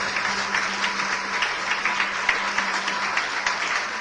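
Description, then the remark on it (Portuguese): An audience applauds the Lord Jesus steadily, a dense crackle of many hands clapping at an even level for about four seconds, with a faint low hum underneath. “Vamos aplaudir mais o Senhor Jesus por cada vida que está chegando.”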